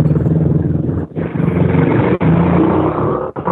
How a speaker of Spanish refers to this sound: ¿Alguna moto por ahí?